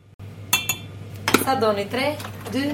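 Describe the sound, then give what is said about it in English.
Several sharp clinks of cutlery against dishes ring out, followed by ongoing clattering and rattling of crockery over a steady low hum, in a kitchen with a pile of dirty dishes in the sink. “she looks at the pile of dirty dishes in the sink and shoots a sideways glance at her 14-year-old son”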